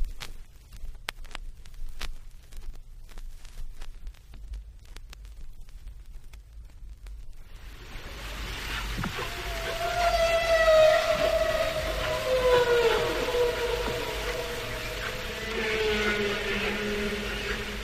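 Humpback whale song recorded underwater through a hydrophone in deep water near Bermuda in spring: after several seconds of faint clicks and low rumble, long wavering moans slide downward in pitch over a hissing, watery background, loud.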